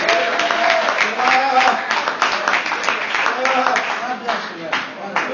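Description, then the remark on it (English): A church audience claps hands in a dense, steady patter of sharp strikes while many voices call out together over it, saying "Goliath is my pathway to my next level," loud throughout the whole stretch. “I dare you to clap your hands and say, Goliath is my pathway to my next level.”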